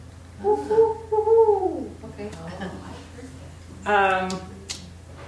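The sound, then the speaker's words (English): A person's voice imitates a barred owl, giving a long wavering hoot that slides downward, then a shorter second hoot after a pause, fairly loud over a low steady hum. “I learned the barred owl call.”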